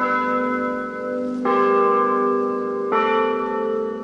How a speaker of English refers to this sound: A church's bell tower rings over the town square.